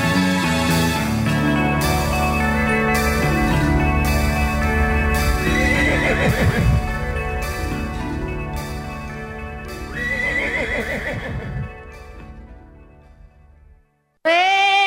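A horse whinnies a couple of times over a full musical backing, while steady clip-clopping hoofbeats keep a regular rhythm throughout, ending in a brief pause and a final loud burst.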